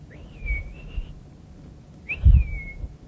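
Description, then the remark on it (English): A person whistles two clear, drawn-out notes imitating a wood pewee's call, each rising quickly then gliding and wavering downward, separated by a short pause, fairly loud. “But the wood peewee goes more or less like this.”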